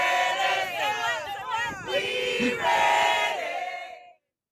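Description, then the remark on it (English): A crowd of striking Waffle House workers shouts and yells together in a loud, sustained roar with rising and falling pitches. It continues steadily for about four seconds before cutting off abruptly. “Now they're just yelling at me.”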